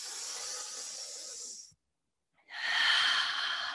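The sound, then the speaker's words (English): Deep, airy breathing: one long breath, a short silent pause, then another long breath, each a steady rushing hiss with no talking. “Goodness in and goodness out. Three more. Two more.”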